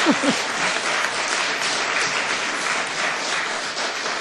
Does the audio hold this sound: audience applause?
yes